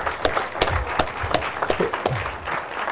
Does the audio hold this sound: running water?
no